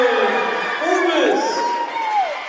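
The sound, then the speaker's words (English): The Warrior faithful crowd inside Sanford Gymnasium applauds and cheers after Brooklyn Forbes's elbow jumper gives her first points of the evening, in a steady, dense wash of noise, with a few rising and falling shouts and whoops cutting through the roar. “A nice round of applause from the Warrior faithful inside Sanford Gymnasium here tonight.”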